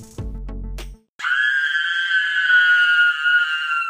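A few low, thumping beats give way to a long, loud, high-pitched scream that holds steady for several seconds with a shrill, strained edge.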